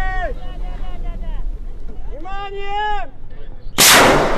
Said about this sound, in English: A flare soars into the air, and they pull with all their strength at long wooden oars. They're in a race against seven other teams in seven other boats.